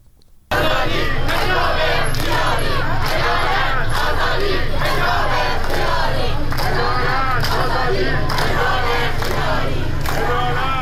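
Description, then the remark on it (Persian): A large crowd of protesters in Tehran, Iran, chants slogans together against government officials and the police and demands an end to compulsory hijab. The chanting is loud and continuous, with rhythmic collective shouting and surges of voices after a brief quiet start. “بر اساس تصاویر و ویدیوهایی که منتشر شده، تظاهر کنندگان علاوه بر شعار علیه مقام‌های حکومتی و نیروی انتظامی، خواستار رفع حجاب اجباری شدند.”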